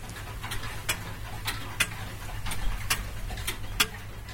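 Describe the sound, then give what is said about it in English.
An antique watch from about 1800 to 1820, started by a tug, ticks steadily and quickly, about two crisp clicks per second, faint over a low background hum with no voices. “And as soon as I gave the tug, one or two of the watches started to tick, as if they were looking for attention.”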